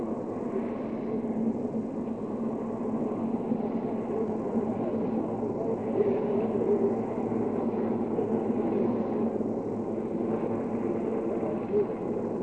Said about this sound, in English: The color guard from the Marine Barracks in Pearl Harbor, silhouetted against the recovery helicopter as it comes down for a very soft landing aboard Okinawa.